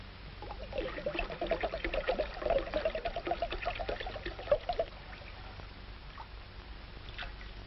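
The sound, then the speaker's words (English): Grape juice pours steadily into a bowl for about five seconds, a continuous splashing gurgle that then stops, leaving quiet room noise. “Yeah, pour it in the bowl”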